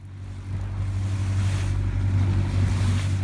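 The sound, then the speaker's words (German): A steady low engine drone of half a dozen boats at sea three nautical miles off the island of Kea, out in fine September weather to commemorate the victims of the Britannic sinking, with broad wash of water and wind hissing continuously, fairly loud, no voices. “Bei herrlichem Septemberwetter sind ein halbes Dutzend Boote hinausgefahren, um der Opfer einer Katastrophe zu gedenken.”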